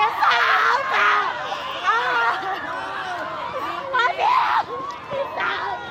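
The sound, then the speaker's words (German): A crowd of many voices shouts and wails together in dense, overlapping cries, with sharper screams rising out of the mass, sustained and loud throughout. It is Milo Rau's staged re-enactment of the 17 April 1996 massacre of demonstrating landless people by military police, the opening scene of Antigone in the Amazon. “Es ist nötig zu schreien, hatte Milo Rau der Presse erklärt, und gleich zu Beginn schallt dieser Schrei wie ein Appell vom lateinamerikanischen Kontinent in den europäischen Kulturbetrieb.”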